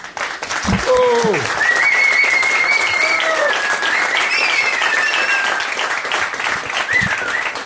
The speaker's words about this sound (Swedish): Nu riktar jag mot den stora publiken här. Tack så mycket för att ni ville vara med oss här denna eftermiddag. Och det fick vi applåder också.